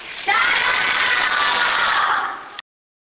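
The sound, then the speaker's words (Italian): A group of third-grade schoolchildren shout a loud "Ciao!" greeting home in unison, a single sustained burst of many young voices lasting a couple of seconds before cutting off abruptly. “Allora adesso un saluto a casa da parte di tutti i bimbi di terza A.”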